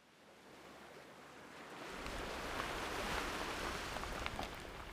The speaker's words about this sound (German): Hör dir mal das Meeresrauschen an. Die Wellen, wie die zerbrechen jetzt am Ufer. Immer wieder atemberaubend schön.